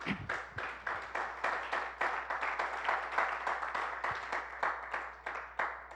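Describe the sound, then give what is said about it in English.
A crowd claps steadily, many hands producing a dense, crackling patter of sharp slaps that holds an even level for several seconds without anyone speaking. “Thank you for clapping.”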